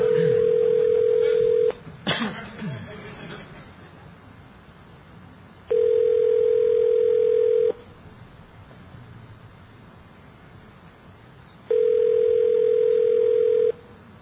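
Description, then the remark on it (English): A telephone ringback tone sounds over the line three times, each steady two-second burst separated by long pauses of faint hiss, with a brief click near the start. “It's ringing.”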